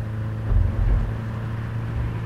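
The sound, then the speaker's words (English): An approaching car's engine hums with a low, steady drone that swells briefly, then holds an even rumble rather than clearly fading away. No one speaks. “Listen for approaching cars. Hear which side they're coming from, and hold to the opposite side.”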